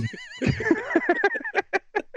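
A horse whinnies loudly, opening with a high, wavering squeal that breaks into a quick, fading series of pulsed neighs. No voices are present.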